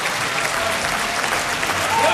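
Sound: opera audience applause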